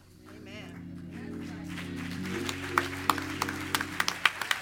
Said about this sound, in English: It took y'all 5 seconds to clap on that one. And let me tell you why it took you 5 seconds to clap on that one.